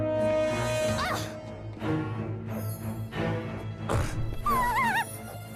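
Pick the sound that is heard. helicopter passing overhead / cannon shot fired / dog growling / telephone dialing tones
dog growling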